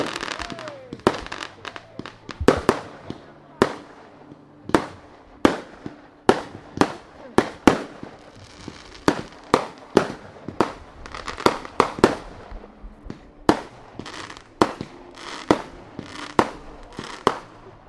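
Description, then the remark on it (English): Four boxes of fireworks linked on a single fuse go off in rapid, irregular bursts of bangs and crackles, firing one after another for the whole stretch. Sharp loud pops overlap a steady low hum, with occasional voices underneath. “We've got just one fuse, got and then four boxes.”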